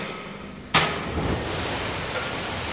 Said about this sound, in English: A hopper train full of coal dumps its load at Ratcliffe-on-Soar, the second largest power plant in Britain. This one plant consumes 100 trainfuls of coal a week.